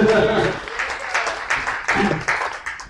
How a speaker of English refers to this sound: Now, I know some of you guys are afraid to clap today because we're talking about sex, but go ahead, okay? Go ahead.